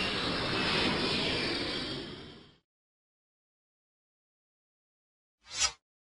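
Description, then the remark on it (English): A loud, steady jet engine roar fills the first couple of seconds, then fades away into silence. A short, sharp whoosh follows near the end. “I want to fly in a jet.”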